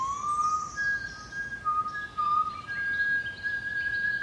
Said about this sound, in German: Das Pfeifen war nun ganz nah.